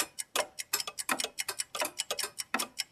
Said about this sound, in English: Wow, how many clocks have you got? 99 clocks. Clocks?